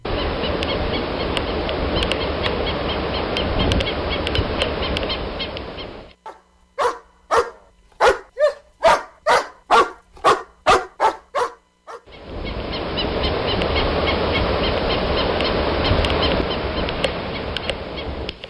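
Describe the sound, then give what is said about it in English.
A dog barks about a dozen times in a quick, steady run, loud, set between long stretches of steady roaring surf at a de facto dog beach beside a coastal marsh at Joint Base Pearl Harbor Hickam. “This past weekend, we paid a visit to what the military says was a de facto dog beach at Joint Base Pearl Harbor Hickam, but it was right up against a coastal marsh, home to endangered native Hawaiian birds.”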